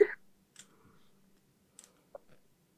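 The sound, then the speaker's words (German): A twenty-sided die from a D&D starter set, used for a reroll, clatters on a tabletop: one sharp knock, then a few scattered light clicks over a couple of seconds as it tumbles and settles, landing on a 5, otherwise quiet. “Ich setze den Reroll ein und ich benutze einen anderen Würfel.”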